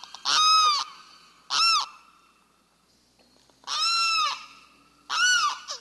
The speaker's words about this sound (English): Here's a message from the Limpkin, a resident of southeastern swamps.